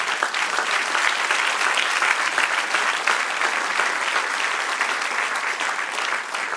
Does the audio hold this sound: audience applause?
yes